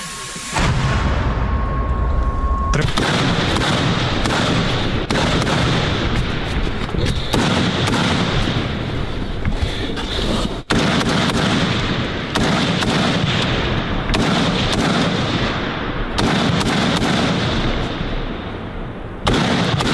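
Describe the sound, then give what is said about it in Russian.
An artillery gun fires with a heavy, booming blast followed by a long rumbling roar that sustains loudly, with further sharp reports cutting in every few seconds and a faint steady tone at the start. “Одну вогонь. Постріл!”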